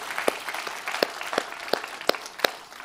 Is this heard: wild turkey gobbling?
no